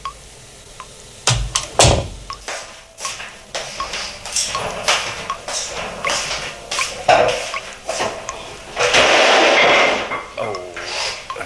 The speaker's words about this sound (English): You literally will hear a guy walking into a room and the water dripping and all that. But listen to what transpires.